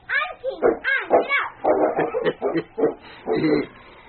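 A big lead sled dog, King, hitched to a sled with a child sitting on it, barks and yips excitedly in a quick, uneven string of fairly loud calls, with a few whimpering notes mixed in and no pauses for quiet.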